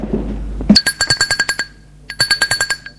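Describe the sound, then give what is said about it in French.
An electric doorbell is rung at a door at 4 p.m., in two bursts of rapid, high-pitched buzzing trills, separated by a short pause, after a brief low rumble. No one speaks. “lendemain, à 16h, il sonne chez Valérie.”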